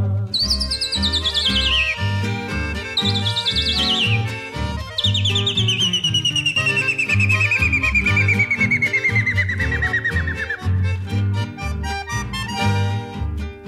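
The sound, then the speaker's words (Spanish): Guira cuckoo (pirincho) and rufous hornero calls announcing the dawn: high, bright bird cries that slide downward in pitch, repeating in long descending runs over a loud, steady rhythmic instrumental backing. “viene apuntando el alba, el sol empieza a trepar, un pirincho y un hornero anuncian el despertar”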